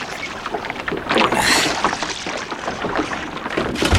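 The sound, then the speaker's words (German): Someone clambers into a small boat, helped in by two others: water sloshes against the hull amid steady knocks and creaks, with a louder burst of splashing partway through. No one speaks. “Helf mir mal ins Boot, ihr beiden.”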